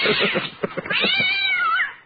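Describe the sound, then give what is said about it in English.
Several cats meow and yowl, overlapping cries that rise and fall in pitch, with a long drawn-out wailing meow toward the end. “Who let the cats out?”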